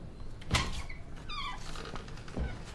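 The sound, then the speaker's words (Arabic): Two separate knocks on a door, spaced well apart, with a short high creaking squeak in between and no voices; someone knocking before entering to deliver a secret telegram. “اذهب، أطرق الباب أولا.”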